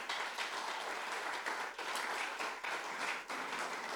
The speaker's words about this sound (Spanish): Y si tú le crees, dale un fuerte aplauso al Señor.